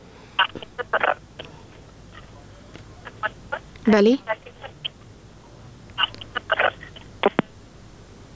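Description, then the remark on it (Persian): Crackling, garbled telephone line noise comes in irregular bursts over a steady hiss, with a warbling squeal in the middle, left after a listener's call to the radio call-in programme 'Women Leaders' drops. A voice briefly speaks. “بله، خب تماسی نقد شد.”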